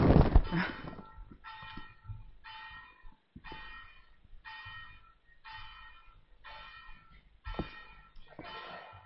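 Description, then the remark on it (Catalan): Church tower bells ring in a steady peal, about nine evenly spaced strokes in quick succession, each leaving a bright ringing tone over faint low background rumble. “Campanar.”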